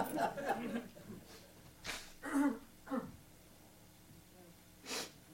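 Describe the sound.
A brief stretch of talk gives way to noisy bursts of someone blowing their nose into a Kleenex tissue: three quick blasts, a pause, then one final blow.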